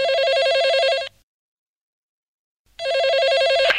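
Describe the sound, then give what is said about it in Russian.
A mobile phone call tone with a warbling electronic trill, two loud bursts of about a second each separated by a short silence, with no voices; it is the call-waiting tone of a second call to a mobile phone. “2-й звонок на мобильный, гудок ожидания вызова.”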